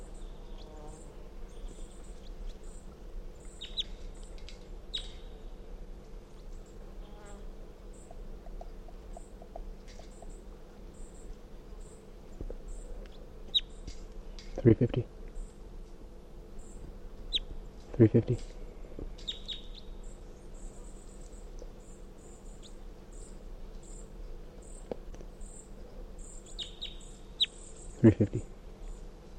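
Very weak, high-pitched calls from wild bird number 350 come in scattered faint chirps over a steady low hum and insect-like buzzing, broken by a few sharp knocks.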